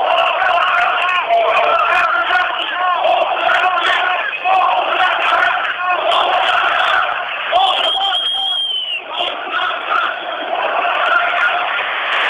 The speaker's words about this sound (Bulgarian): Чувате скандиранията оставка, оставка в момента. Може би останаха няколко стотин души, не повече от 10-30 човека, които са на самия Орлов мост в момента.